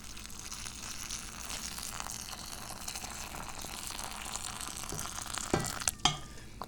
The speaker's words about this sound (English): I've got some boiling water right here. Take the lid off. And I got the tea in the filter, and the filter's in the teapot. Gonna do the one-handed pour. Sexy. Yes, I'm so skilled at making tea that I can pour the water in one-handed. And here we go.